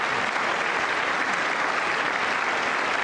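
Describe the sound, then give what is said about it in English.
Steady applause from a crowd, a dense, even wash of many hands clapping at once that holds at a constant loud level for the full three seconds, with no voices standing out. “Schumer, clap.”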